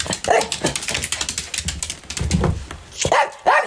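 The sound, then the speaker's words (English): A small dog named Eddie, a white mutt with streaks of brown hair, most likely a shih tzu mix, barks and yips repeatedly, with sharp, high-pitched, uneven bursts that grow louder toward the end. No one speaks. “He's a mutt, most likely a shih tzu, and a bunch of other things.”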